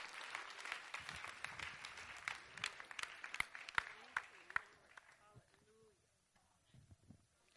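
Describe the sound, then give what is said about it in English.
An audience bursts into sustained, dense applause as a hand of praise to the Lord, with some louder individual claps standing out before it fades to scattered claps and quiet murmuring near the end. “Now give the Lord a hand of praise.”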